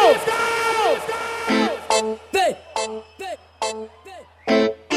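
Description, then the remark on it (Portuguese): A group of voices, answering a call for those who like the song playing to shout, lets out loud, sustained shouts and whoops, first one long drawn-out yell, then a series of short, punchy cheers bursting out one after another. “Quem gosta dessa música vai dar um grito!”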